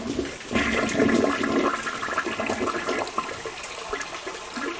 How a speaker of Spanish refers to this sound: Corre el agua, las señoras y los niños disfrutaban de sus aguas.